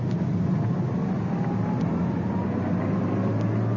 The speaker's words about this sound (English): There's the suspect's car casually driving by. Back down the street about 300 yards, the other undercover car following.